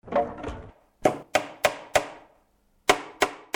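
Hammer blows drive nails into wood to build a launch ramp for a rocket: a quick run of four sharp knocks, a pause, then three more, opening with a brief rough clatter. No one speaks.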